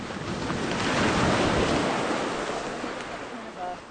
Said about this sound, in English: Eventually, the carcass is tied off with some green rope to prevent it from being carried away by the waves, which crash against the rocks, soaking some of the necropsy team.